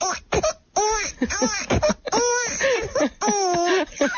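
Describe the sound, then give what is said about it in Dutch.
An adult voice imitates a baby's giggling and cooing, a run of high, wavering, bubbly squeals and chirps broken by short pauses, fairly loud. “Ik heb trouwens, vorige keer dat je hier was, toen je in de finale zat, deed je die babygeluidjes. Ik heb geoefend.”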